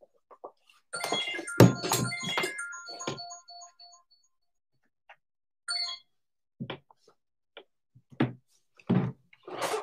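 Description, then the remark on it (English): A phone's 5 a.m. wake-up alarm plays a quick melody of bright, ringing tones for a couple of seconds, then a short chime sounds again, followed by several scattered soft thumps and taps. “That's my 5 a.m. alarm telling me to wake up.”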